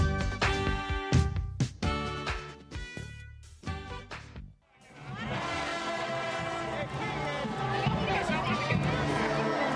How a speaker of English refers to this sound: It's music to their ears in New Orleans. The crowds are back for Mardi Gras. Hotels are full, and the French Quarter is packed with partiers.